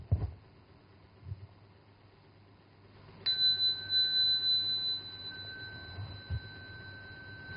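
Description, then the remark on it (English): A single clear chanting bell is struck once to begin a Buddhist chant of the Heart Sutra, ringing out with a sustained, shimmering tone that slowly fades over a faint low background rumble. “I will start by ringing the bell, then you all proceed.”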